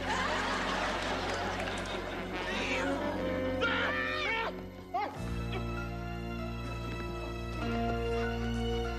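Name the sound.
cat yowling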